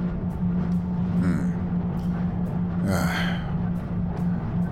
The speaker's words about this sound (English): Are you all right? Are you having trouble breathing again?